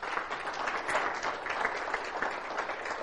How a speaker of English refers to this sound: Oh, boy, does that deserve a hand of applause in his house.